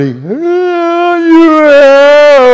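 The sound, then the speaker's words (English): A loud, sustained human whooping cry, used to make one's voice heard across the land: the voice scoops upward, then holds a long, strong, ringing note that wavers slightly, carrying clearly with nothing else around it. “That's the whooping cry. It's to make your voice heard across the land.”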